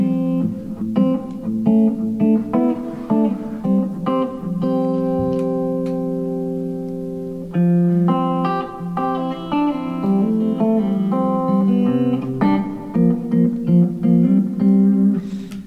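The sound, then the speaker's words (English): A clean blue Les Paul electric guitar runs through a Dynacomp compressor pedal with light reverb, playing a steady mix of chords and single notes that sustain evenly, fairly loud, with no talking. “All right, so this is, let's see, this is just the Dynacomp with a little reverb, I guess.”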